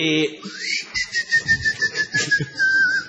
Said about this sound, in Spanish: El silbar del boyero. Que mientras fabrica bollas... chifla.